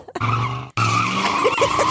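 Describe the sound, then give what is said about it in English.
Two loud tire squeals follow one another with a brief gap between them. Each is a sustained, high-pitched shriek over engine rumble, as two cars skid hard. “Two cars.”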